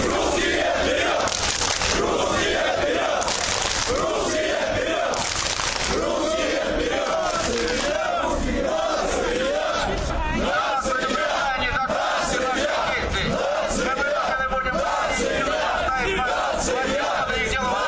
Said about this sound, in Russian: Не убедив милицию, что им нужно пройти к клубу, бритоголовые построились в три шеренги и начали скандировать лозунги и размахивать флагами.